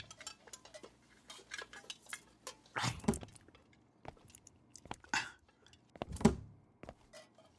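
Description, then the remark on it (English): Metal pots and pans clatter and clank as someone rummages through them, with scattered light knocks and two louder crashing clangs, with no talking. “Where do you keep the pots and pans?”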